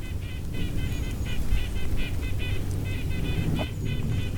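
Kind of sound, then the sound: bird, red-breasted nuthatch calls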